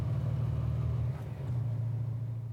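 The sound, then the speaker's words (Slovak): A car engine rumbles steadily, with a brief dip in the middle before the low droning note picks back up. No voices. “A ako auto.”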